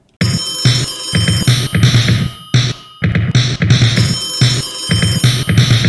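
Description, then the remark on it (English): A telephone at a Domino's Pizza shop rings loudly and steadily in repeated electronic trill bursts, with a brief pause between two ringing cycles and no voices. It is an incoming call from a computer speech synthesizer ordering a pizza. “Here's a song about a fried Domino's worker getting a phone call from a computer and thinking the robot uprising is happening.”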